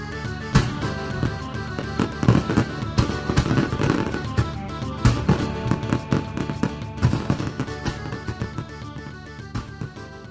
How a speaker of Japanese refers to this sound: 花火が始まるよ。